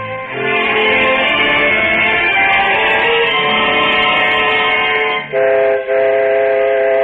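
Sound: train with steam whistle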